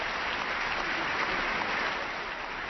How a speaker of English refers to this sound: But are the Republicans applauding? Oh, yeah, the Republicans are applauding.